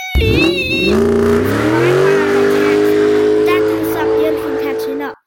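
A taxi drives away: its engine revs up with a rising whine, then settles into a loud, steady drone for several seconds before cutting off abruptly.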